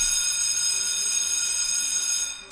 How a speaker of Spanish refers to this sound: Mientras que Mitchell se quedó al cuidado de aquel material, Andrew se internó en el centro escolar y logró hacer sonar la alarma de incendios.